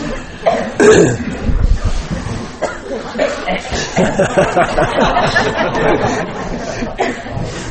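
A roomful of people getting ready for a meditation coughing, blowing noses and clearing their throats, scattered bursts overlapping with a low murmur of chatter and shuffling throughout.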